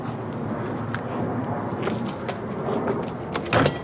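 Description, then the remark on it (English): Over a steady background hum, a store door on a fake street set is tried with a couple of sharp clicks and rattles before it swings open with a louder clunk near the end. It is the door of a mock wine shop. “Let's just try the store doors and see if one of those.”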